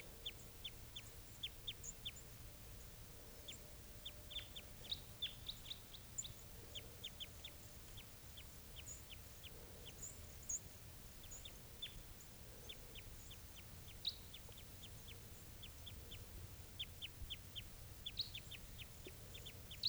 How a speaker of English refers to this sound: It's 7:37 now, and I think I hear a type 2 around here somewhere. Here it is, wild bird. It's a male or a female. Wild. Wild bird.